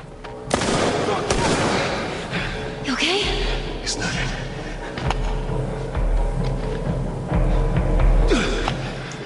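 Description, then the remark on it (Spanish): Video game gunfire crackles in rapid, irregular bursts with sharp bangs and a steady low rumble beneath, loud throughout the whole stretch. “Ahí el güey le trató de pegar un balazo y se...”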